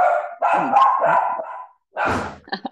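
Several loud dog barks come in quick bursts, a short pause, then more sharp barking, some overlapping, with no voices.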